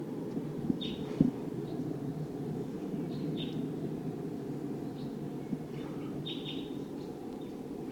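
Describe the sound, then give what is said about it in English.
A few short, high V-shaped flight call notes from a wild bird come in scattered bursts, a couple in quick pairs, riding over a steady low rumble with no talking. “Sounds like a V-shaped flight call note. Wild bird.”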